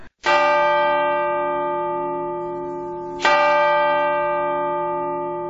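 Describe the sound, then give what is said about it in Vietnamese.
A clock striking ten o'clock strikes twice, about three seconds apart, each loud, bell-like chime ringing with rich overtones and slowly fading. No voices are heard. “Đồng hồ gõ 10 giờ.”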